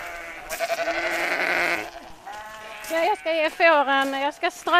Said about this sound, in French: Là, je donne du foin au mouton. Il a tellement plu qu'on va devoir rajouter de la paille.